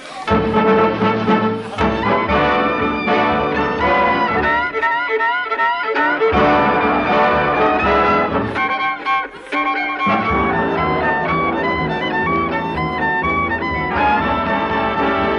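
Brisk dance-band music from a full orchestra, with a bright, swooping violin playing hot licks over steady rhythm, loud and continuous with a brief dip near the middle.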